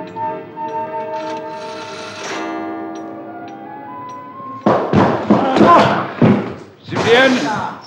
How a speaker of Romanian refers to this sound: Cine sunteți? Cum îndrăzniți să-mi spargeți ușa?